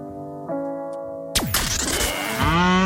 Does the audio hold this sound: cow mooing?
yes